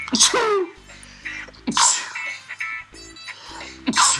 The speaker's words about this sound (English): That's right, no editing on the Raptors Abroad podcast. You're catching my sneezes and all. Having trouble with the yawning earlier. I had to restart a couple times. Now it's sneezing.